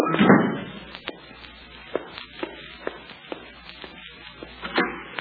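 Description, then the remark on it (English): A door thuds heavily at the start, followed by a steady run of footsteps and light taps crossing the room. No one speaks. “I know, but I've got to shut that door”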